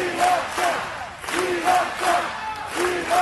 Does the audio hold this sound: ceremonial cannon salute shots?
no